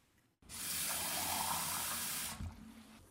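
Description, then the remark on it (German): Water pours steadily into a shaker for about two seconds, a bright rushing hiss that starts abruptly and cuts off, followed by a faint knock and quiet settling; the water is added to powder and oil to prepare a liquid meal-replacement shake. “Pulver in den Shaker, Öl und Wasser zu gießen, schütteln.”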